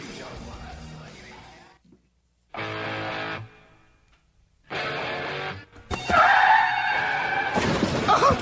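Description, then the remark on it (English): A car crash sound effect: bursts of harsh, distorted noise, then a high squealing screech that gives way to a loud, crunching impact with shattering debris, all without speech. “All right, let's get to our car wreck of the day.”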